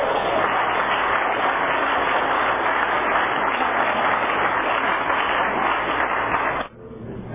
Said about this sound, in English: Okay, let's give a warm round of applause for our featured speaker